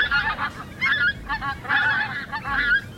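A flock of pink-footed geese honks continuously, overlapping calls rising and falling in bursts, loud, with no one speaking.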